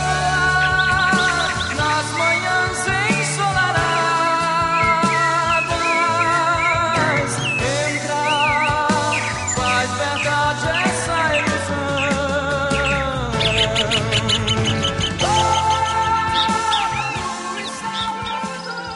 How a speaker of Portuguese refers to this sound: É o passo preto, que em tupi chama-se graúna, palavra que significa justamente ave preta. Bom, seja em tupi ou em português, é bom ver e ouvir essas aves todas, não é? Cantando bonito pra gente ouvir, mas livres, não em gaiolas.